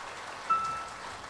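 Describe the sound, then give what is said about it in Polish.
An audience at a concert claps for the musicians just introduced, a steady, dense wash of many hands with no single claps standing out. It continues evenly for about a second with no voices. “To dla nich brawa, dla nich.”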